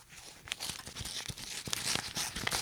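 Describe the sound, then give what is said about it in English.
A card envelope holding a card from Melinda Snodgrass is torn open in a run of short, crackly paper rips and crinkles, fairly steady over a few seconds, with no voices. “Perhaps this card and gift will cheer you up, Mum.”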